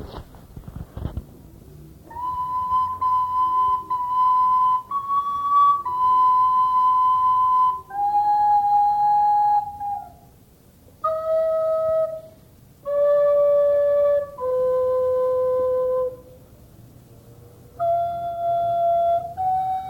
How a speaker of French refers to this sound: va interpréter quelques airs de flûte, car il vient d'acquérir cet instrument remarquable après un an de retard d'ailleurs. Alors je vais d'abord jouer les Matassins, danse de la Renaissance, premier morceau.